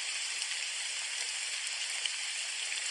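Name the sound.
steady rain falling outside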